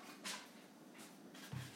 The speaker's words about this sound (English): She's barking at the wind.